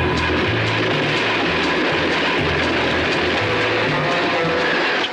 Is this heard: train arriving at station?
yes